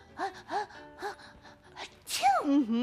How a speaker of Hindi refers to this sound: और आते के साथ ही आ रही है छींकी आवाजें।